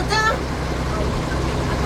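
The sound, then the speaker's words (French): A truck rumbles steadily along a road, its low engine and tire noise loud throughout, with a brief higher tonal squeal near the start. “Mais où ce camion va-t-il m'emmener maintenant?”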